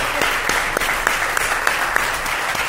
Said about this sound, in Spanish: Bueno, pues en fin, pues venga, un último aplauso para estos grandes amigos que les han seguido la broma un rato.